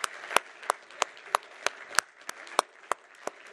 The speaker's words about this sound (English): They've showed us such incredible hospitality while we've been here by allowing us to stay in their home and allowing us to use their vehicle, and so if we can just give them a round of applause.